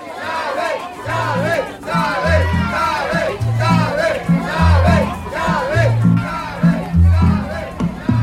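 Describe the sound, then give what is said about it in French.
A large crowd of Venezuelans chants and cheers loudly in unison in support of Hugo Chavez, many voices rising and falling in a rhythmic pattern over a steady, deep booming beat that continues throughout. “Le peuple applaudit Chavez, le peuple aime Chavez et bientôt le peuple va faire le choix Chavez.”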